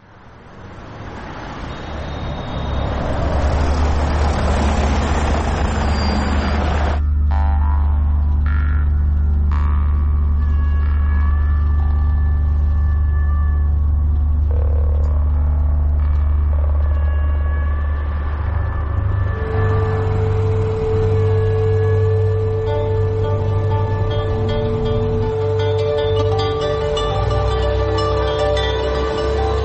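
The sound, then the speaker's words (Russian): A heavy bus engine rumbles steadily, idling and pulling away from a bus stop by the Freedom Bridge at 7 a.m. on 24 November 1990, bound for the village of Čerević, with a droning hum and whining tones layered over the low throb of surrounding traffic. “На автобусной остановке у моста Свободы я сажусь в 7 утра на автобус до деревни Черевич.”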